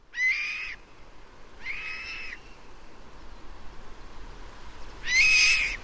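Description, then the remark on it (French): Three loud, drawn-out calls from a Bonelli's eagle, a rare, protected daytime raptor, ring out at even intervals in the Bois des Lynces, France, each a bright, slightly wavering whistle, over a steady hiss of outdoor background noise. “Pour commencer, on vient d'entendre l'aigle de Bonnémy, dont Noémie nous a parlé tout à l'heure.”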